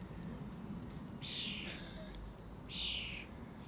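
bird, blackbird singing

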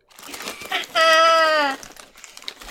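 animal, dog barking on command

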